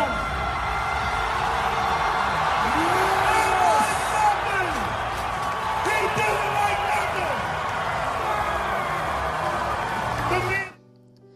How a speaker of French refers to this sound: Alors, ça a l'air extraordinaire, la foule acclame.